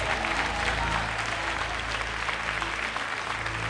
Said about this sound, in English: One last time, give Jesus a great hand clap all over the building.